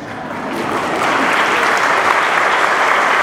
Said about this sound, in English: And round of applause